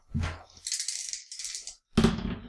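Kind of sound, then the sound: household object, dice rolling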